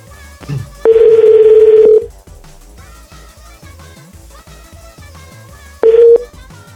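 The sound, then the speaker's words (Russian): A steady electronic ringback tone of an outgoing phone call placed by a radio program to a listener sounds loudly for about a second, pauses, then starts again and cuts off, with faint background sound in between. “кисонька, я тебе звоню.”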